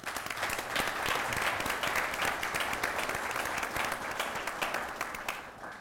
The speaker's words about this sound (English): And I'm just so proud of our students for upholding that tradition and want to give you a round of applause as well.